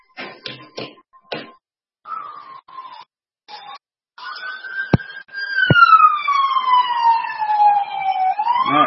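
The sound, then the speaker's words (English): An ambulance siren yelps in short bursts, then holds a loud, steady wail that slides gradually downward in pitch as the fast-moving ambulance, number 425, sweeps past. “Next ambulance is coming. And it's the 425 ambulance. But it's going very fast.”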